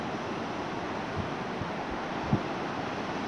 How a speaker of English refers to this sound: I'm at the beach. I'm hoping my phone picks me up okay, though the waves are a bit noisy.